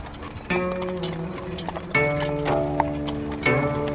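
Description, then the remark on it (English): Horse hooves clip-clop at a steady walking pace, pulling a carriage toward the canals where dragon boat races were to start, the clear repeated knocks layered over sustained ringing tones that swell in three bursts. “The horse-drawn carriage rolled jerkily towards the canals where the dragon boat races were to start.”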